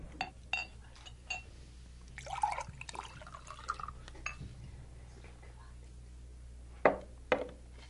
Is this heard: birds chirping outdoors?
no